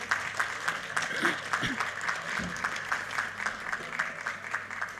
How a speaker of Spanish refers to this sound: Un aplauso para ellos, que son el pilar de nuestra cultura.